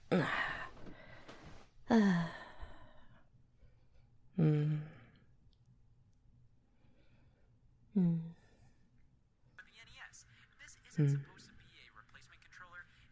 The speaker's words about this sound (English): Don't fucking yawn like an asshole. The movie literally hasn't even started yet, and you're already bitching.